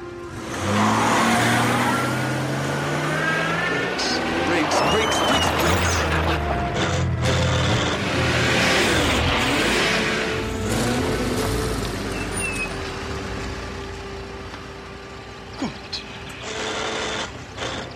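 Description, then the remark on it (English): An Aston Martin car engine revs and strains in uneven bursts as it jerks along a road, with rising and falling whines, mechanical clunks and a few sharp clicks as the driver struggles with the gear shift, loud and continuous. “Let's just reverse the car.”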